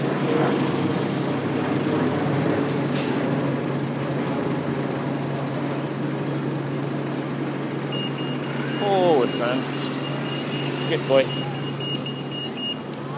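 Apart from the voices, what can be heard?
bus engine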